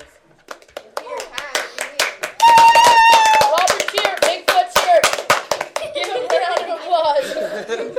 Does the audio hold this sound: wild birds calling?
no